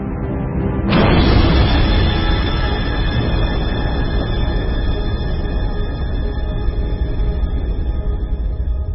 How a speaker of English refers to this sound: One of these was a young Earth, but there was also another young planet, a bit smaller. The two were on a collision course. Eventually, they crashed together. It was the biggest bang the solar system had ever seen.